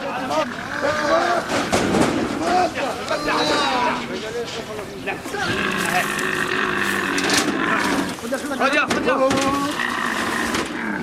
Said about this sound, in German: Werden größere Gruppen von Tieren verkauft, so leisten die Tiere beim Abtransport kaum Widerstand. Einzelne Kamele setzen dagegen zu einem verzweifelten Geschrei an, sobald sie von der Herde weggeführt werden.